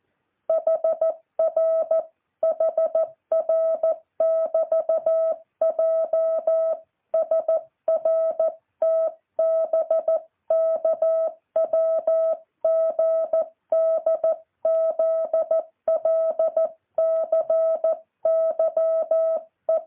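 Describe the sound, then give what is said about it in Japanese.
Morse code sent at 14 words per minute: a single steady mid-pitched tone keyed into short and long beeps, grouped into letters with brief gaps, loud and clear with no voices. “はい、最後の一つです。14WPM です。”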